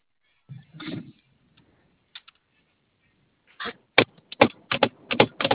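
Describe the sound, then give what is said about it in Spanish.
Rapid, uneven keystrokes clatter on a computer keyboard, crisp, bursting in after a muffled thump and a few seconds of near silence. “¿Y si le prendes a teclado?”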